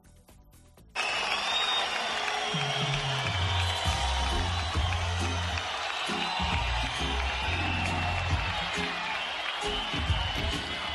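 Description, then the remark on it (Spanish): After a quiet second, a large crowd erupts into loud, sustained booing, low drawn-out voices rising and falling over a dense roar, with scattered clapping mixed in throughout. The audience, mostly Guardia Civil families at a Guardia Civil band concert in a Roman Theatre, boos minister Marlaska as he enters. “Unos pocos aplausos y un recinto mayoritariamente atronado por abucheos flanquearon a Marlaska.”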